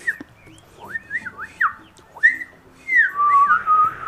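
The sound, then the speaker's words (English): A person whistles a quick, warbling tune, the pitch sliding and trilling up and down in short bursts, fairly loud over a faint low background rumble. “He does like a little warble whistle.”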